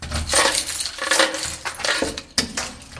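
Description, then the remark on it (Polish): A bunch of keys jingles and clinks for a few seconds, bright metallic rattles coming in uneven bursts as they are shuffled and sorted by hand while searching for the right key to open a door. “Szukamy klucza. Pierwsze drzwi puściły.”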